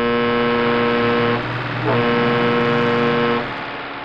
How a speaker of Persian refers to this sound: بروجردی سعی میکرد یه جوری کنار بکشه تا اون خاور بتونه سبقت بگیره، اما نمیشد. جاده خیلی شلوغ بود و مرتب از روبرون ماشین میومد. راننده کامیونم پشت سر هم بوق میزد.